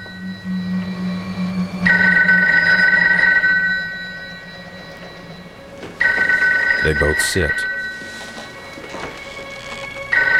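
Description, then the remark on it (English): A telephone rings twice, each long, loud bell burst separated by a short pause, over a low rumbling background; a voice speaks briefly near the start. “What? Nobody has this number. He walks to the phone.”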